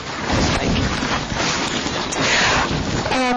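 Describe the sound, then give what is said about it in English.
Water flowing through the Bond Stream makes a dense, steady rushing hiss that stays loud throughout, with a brief high tonal sound near the end. No one speaks. “I think that water that we just heard going through the Bond Stream was kind of mysterious.”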